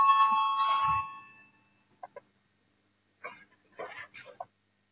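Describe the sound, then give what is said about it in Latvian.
A loud electric voting bell rings in a parliament to call a vote on a proposal, fading over about a second and a half. Moments later, a few short bursts of voices follow. “Lūdzu, zvanu, balsosim par 4. Zaļo un zemnieku savienības frakcijas priekšlikumu.”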